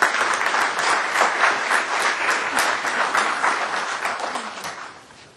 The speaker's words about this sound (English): Please give her a round of applause.